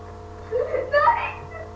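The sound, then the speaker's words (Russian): A small child lets out a short, wordless whiny vocalization that rises in pitch and then trails off, over a faint steady room hum. “Это случайно ребенок ответит. Ребенок хочет сказать.”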